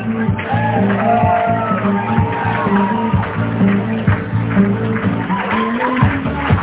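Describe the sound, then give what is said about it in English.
Wedding guests applaud and cheer as the bridal party enters, in a steady, dense wash of noise, with scattered shouts and tonal voices rising through it for several seconds at a constant loud level. “Please continue the applause for our next couple.”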